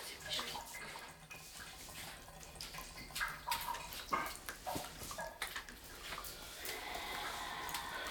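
Shower water runs with a steady hiss while scattered drips and splashes land, the sound fairly quiet and continuous throughout.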